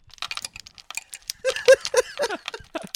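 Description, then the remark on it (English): A dry, clattering rattle of small bones being shaken and juggled around to consult them, a rapid run of crisp clicks and clacks that grows busier and louder midway, with no voices. “Let me consult the bones here.”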